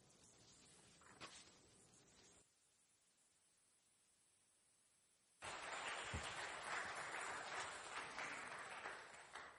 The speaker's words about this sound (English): Part of the benefit of being a layperson giving a temple talk is you get clapped for when you're done. It seldom happens to me.